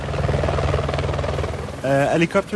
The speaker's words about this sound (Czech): Každý den brzy ráno vzlétají a každý večer přistávají v bivaku helikoptéry, jako strážci a nezbytní pomocníci na Rally Dakar.